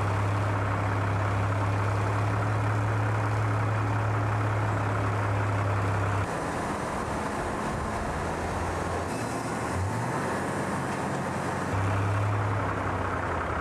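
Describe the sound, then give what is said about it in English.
A heavy transporter truck, whose wheel groups each turn 360 degrees, maneuvers around a shipyard delivering a ship section. Its engine drones steadily with a strong low hum, drops away briefly, then returns, the rumble continuing under broad mechanical noise with no talking. “Each group of wheels can independently turn 360 degrees, allowing it to easily maneuver around the shipyard.”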